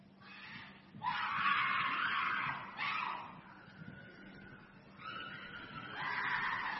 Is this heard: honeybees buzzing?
no